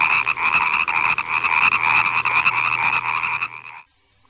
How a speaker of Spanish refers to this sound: Paco Pato se escapaba del nido en un momento en que sus papás se descuidaban y se iba con sus amigas las ranas a saltar y a cantar.